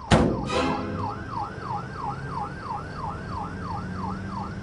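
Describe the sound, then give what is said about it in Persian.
An ambulance siren wails steadily in a fast, repeating rise-and-fall pattern, loud, over a low rumble of traffic, with a sharp thump right at the start. “تو یه ساعته داری دنبال آمبولانس میدوی که بگی منم میام؟”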